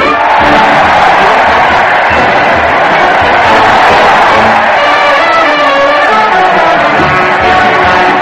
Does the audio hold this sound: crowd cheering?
yes